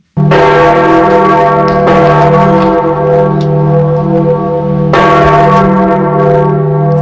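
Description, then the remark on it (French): Large church bells of St. Peter's Basilica in Rome toll loudly and continuously for the death of Pope Francis, with fresh strikes around two and five seconds layered over a dense, sustained ringing hum. No voices are heard. “Les cloches de la basilique Saint-Pierre sonnant pour le pape François”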